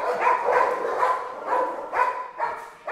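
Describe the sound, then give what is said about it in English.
Dozens of dogs at a working-dog operation, including puppies, chocolate Labradors and German shepherds, bark and yip in quick, repeated bursts with a whining, whimpering edge, steady throughout, no voices, the yelps overlapping as several dogs sound off together. “The whole operation looks like a scaled-down army base, only instead of soldiers marching to and fro, there are dogs, dozens and dozens of them, puppies stumbling playfully, chocolate labs chasing things, German shepherds looking for a job to do.”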